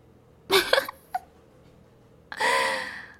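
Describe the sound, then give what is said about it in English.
Roosters crowing in the neighborhood around 1 a.m.: a short, harsh, broken call with a brief squeak after it, then a pause and a longer, loud, strained crow that trails off. Nobody talks. “Ah, the cat-em roasters are so loud again.”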